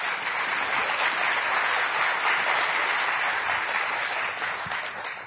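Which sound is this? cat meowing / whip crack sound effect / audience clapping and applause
audience clapping and applause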